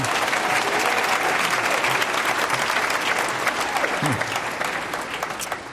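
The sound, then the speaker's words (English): An audience at Climate One at the Commonwealth Club claps steadily for several seconds, a dense crackling burst of many hands that starts strong and gradually fades toward the end, giving Yvon Chouinard an early applause for his 78th birthday. “There's nothing to clap about being 78.”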